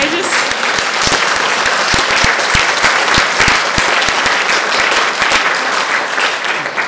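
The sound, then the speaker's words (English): A church crowd bursts into sustained applause for mothers and grandmothers on Mother's Day, dense clapping with sharp individual claps standing out, steady and loud for about seven seconds without any talking over it. “And can we just give them a round of applause, guys?”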